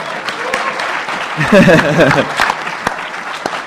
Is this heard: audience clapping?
yes